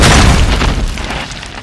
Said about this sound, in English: You run into a rock.